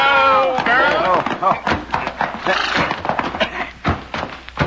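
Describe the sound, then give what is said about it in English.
Horses are reined up at Blaggett's ranch: a horse whinnies with a high, wavering neigh, followed by a jumble of hooves clopping and stamping to a halt, with more snorts and shuffling steps after. “But since we're practically at the door to Blaggett's ranch, rein up.”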